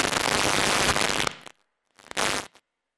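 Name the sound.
fireworks going off outside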